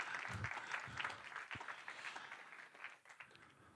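An audience applauds steadily for a few seconds, a dense wash of overlapping claps that stays loud throughout before easing slightly at the end, with no voices standing out.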